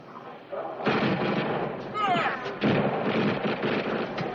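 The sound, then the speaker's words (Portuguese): After a brief quiet start, loud, sustained gunfire erupts in rapid, overlapping bursts that continue to the end, with a short whistling, ricochet-like tone cutting through midway; guards are firing at a man and are ordered to cease fire. “Cessar fogo. Cessar fogo. Guarda, eu já falei cessar fogo.”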